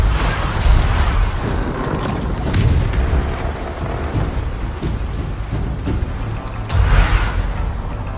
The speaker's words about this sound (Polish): Strzały. Dobra. Ale skąd oni strzelają, słuchajcie?